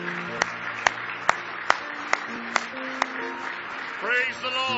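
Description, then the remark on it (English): An audience claps together in praise, in a steady beat, about seven sharp claps at an even pace, over a full sustained background of sound, with voices rising at the end. “Give Him a big hand clap of praise if you love Him tonight with all your heart.”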